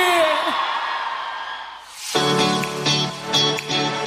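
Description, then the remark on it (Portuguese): A crowd applauding and shouting loudly for a cowgirl, with a dense, continuous roar of clapping and cheers, a few whoops rising above it, and the noise swelling even louder midway through. “Uma salva de palmas e um grito bem forte pra boiadeira aí!”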